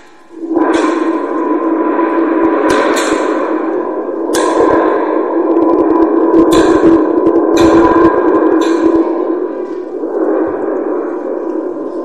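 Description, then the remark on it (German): Sharp cracks of thunder with lightning in a mighty storm with pattering rain break out again and again over a loud, continuous rumbling roar, with several sudden bursts spread across the storm and no voices. “Es blitzt und donnert.”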